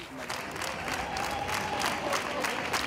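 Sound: people applauding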